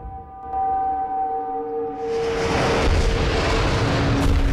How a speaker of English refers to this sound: American bombs rain down on the city, erupting into huge fireballs.